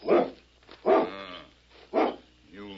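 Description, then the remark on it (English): A dog barks three times in a slow, steady rhythm, each bark loud, with a short harmonic tail after each one and quiet gaps in between. “That dog is perfectly tame.”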